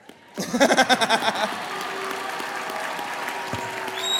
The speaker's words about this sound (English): So, yeah, please applaud for my son.